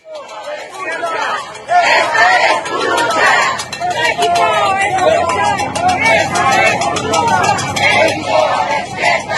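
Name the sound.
protesters shouting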